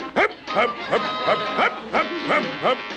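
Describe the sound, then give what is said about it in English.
A dog, Dino, barks in a quick, steady series of about seven high, yappy barks, fairly loud, with no other sounds around them. “Even the dog has given me orders.”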